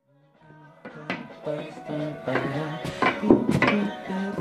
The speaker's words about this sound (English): But you didn't see it would mean taking up all the bathroom floorboards